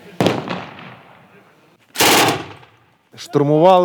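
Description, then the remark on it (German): Two loud, sharp gunshots from blank cartridges fired during a military final training exercise, each cracking sharply and then ringing out over a second or so, a couple of seconds apart, followed by a man's voice starting to speak. “Geschossen wird mit Platzpatronen.”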